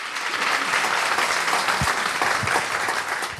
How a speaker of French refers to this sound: Je crois qu'on peut vous applaudir. Merci.